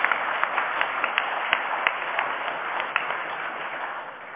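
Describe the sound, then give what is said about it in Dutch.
A group of council members applauds steadily for about four seconds after the council adopts a new name, a dense patter of many hands with a few sharper individual claps standing out, fairly loud and without any talking. “Daar mag u voor klappen, jazeker.”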